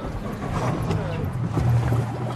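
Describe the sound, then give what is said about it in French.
A boat's steady low engine rumble and water wash fill the scene, continuous, with people talking over the droning noise as they board the boat. “Donc, voilà le bateau, on va embarquer.”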